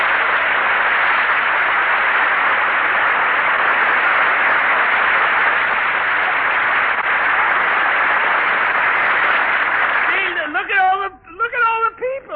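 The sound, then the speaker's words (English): A crowd claps loudly and steadily for Danny Kaye as he is introduced, a dense unbroken wash of applause for about ten seconds, then fades as a voice begins talking over the last of it. “Clapping their hands and everything.”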